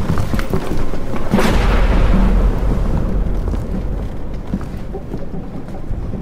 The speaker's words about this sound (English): One of the sailors told me about storms like this. We need to tie ourselves to something. Ride out the storm.